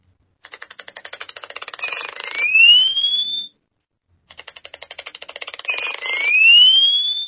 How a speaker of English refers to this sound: And now for the call of the Cape Clapper Lark.